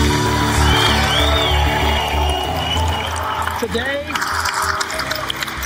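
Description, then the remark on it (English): A large audience cheers and whoops continuously at Apple's iPhone announcement, with a steady wash of crowd noise and a few rising whistles and shouts cutting through throughout. “We had to edit this down because the applause just went on and on and on forever.”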